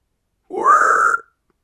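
A single low, rough grunt lasting under a second, a human voice imitating a pig, fairly loud with a throaty, burp-like quality and no other sound around it.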